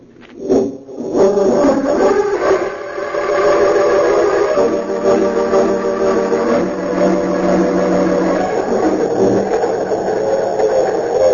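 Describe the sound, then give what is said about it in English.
The Golden Comet express train roars along at speed through the night toward the city of Metropolis, its steady rumbling drone overlaid with sustained, wailing whistle tones. Loud and continuous from start to finish, with no voices. “It seemed as the crack expressed the golden comet speeding through the night toward the city of Metropolis.”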